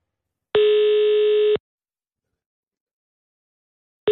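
A telephone ringback tone sounds on an outgoing call placed by radio host Anders Lund Madsen of Radio 24/7: one steady electronic tone lasting about a second, then silence, and the next ring beginning as it ends. Clear and close, with no voices.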